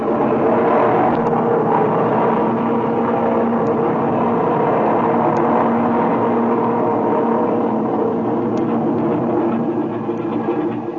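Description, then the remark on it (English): An aircraft engine is run up again on the ground before takeoff, reaching a reading of 2,100; a steady, loud, droning roar with a low throbbing hum that holds a constant pitch and level throughout, with no voices. “Oh, by the way, I want to run up the engine again before we take off.”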